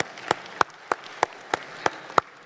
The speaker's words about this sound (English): Well done. I take your applause as a sign of you're glad that that's all over with.